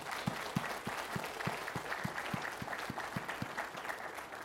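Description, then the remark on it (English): A crowd applauds to thank those who worked on the evening's event, a steady, dense wash of many hands clapping, with a strong, regular rhythmic clap repeating about every third of a second through the whole stretch. “I'd like to take a moment and give them a round of applause and thank them for all the work they did tonight.”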